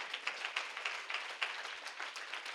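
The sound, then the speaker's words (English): An audience claps together in praise of Jesus during a sermon, many hands overlapping into a dense, crackling patter with a few sharper claps standing out. The applause is fairly soft and steady, with no voices. “Clap your hands for him.”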